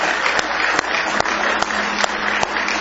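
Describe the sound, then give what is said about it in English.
A church audience claps steadily as a hand clap of praise to the Lord, a dense wash of many hands with a few sharper individual claps punctuating it at a loose rhythm, fairly loud and sustained throughout with no talking. “Now give the Lord a hand clap of praise if you love Him tonight.”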